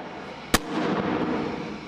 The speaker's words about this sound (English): there's the shockwave cannon. It creates massive pulses of air that send you cowering to the earth.